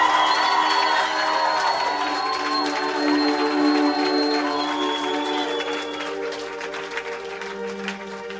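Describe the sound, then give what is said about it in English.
A crowd shouts and cheers together as a shout of praise to the Lord. It is a sustained, loud roar of voices with scattered whoops rising above, gradually easing off a little toward the end. “Can we give the Lord a shout of praise?”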